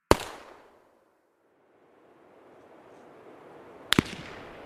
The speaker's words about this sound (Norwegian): Plutselig hørte vi 2 skudd.